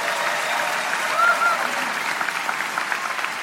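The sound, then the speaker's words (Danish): An audience at a live show claps when asked who has seen the performer live before: a dense wash of many hands applauding without pause, fairly loud and even throughout, with a brief higher whistle-like tone rising over it partway through. “Prøv at lade klappe en gang.”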